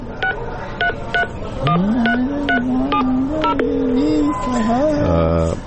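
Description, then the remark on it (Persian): A phone number is dialed as a quick, steady series of about nine bright keypad beeps, with a voice talking underneath the later tones before a low buzzing tone ends it. “ممنونم عزیزم، بذار بده من یه تلفن بزنم.”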